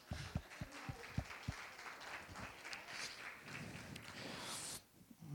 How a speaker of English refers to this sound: Bible readers, thank you. Nobody got that yesterday. Let's give a clap for the people who read God's word.